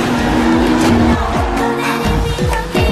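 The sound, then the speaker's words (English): Loud race car engines rev and roar up and down in pitch over a constant wash of noise, with a sustained squealing of slick tires sliding as the car drifts. “It's called drifting.”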